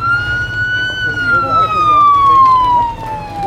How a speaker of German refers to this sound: Macht Platz für die Feuerwehr!